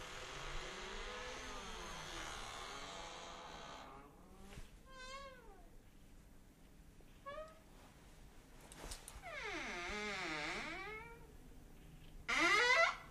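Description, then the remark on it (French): A creaking door groans and squeals in a series of drawn-out, wavering creaks that rise and fall in pitch, some short and sharp, others long and whining, over a low rumble. “C'était le concerto en une minute pour une porte qui grince.”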